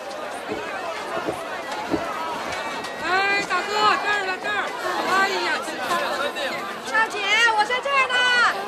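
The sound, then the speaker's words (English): A dense babble of many overlapping voices, lively and continuous. A crowd on a busy dock greets passengers walking off a ship down the gangplank, with excited exclamations and rising calls poking out over the steady murmur. “Carrying two suitcases, she searches the sea of smiling faces that crowds the dock.”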